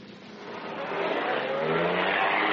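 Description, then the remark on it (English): A car engine starts and revs up, its broad rumbling roar steadily growing louder with a low tone that rises slightly in pitch. No voices are heard. “Yeah, start her up.”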